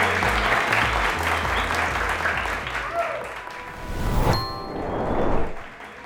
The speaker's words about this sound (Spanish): Como acto inaugural, empezaremos con la obra de los alumnos de décimo A titulada Romeo Tic y Julieta Toc. Que la disfruten. ¡Un aplauso, un aplauso!